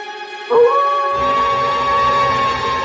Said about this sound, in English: Writhing and roaring, he raised a clawed hand to the moon and let off a blood-curdling howl.